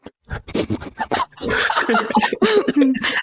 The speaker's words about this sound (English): Sorry, my dog's at my bedroom door and she wants in.